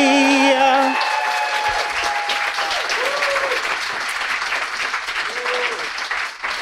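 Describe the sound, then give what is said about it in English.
Steady, dense applause from a sizable audience at an East Coast book launch for the book Virology, loud and continuous for several seconds, with a few cheers and whoops rising over the clapping near the start. “Just revel in the applause, baby.”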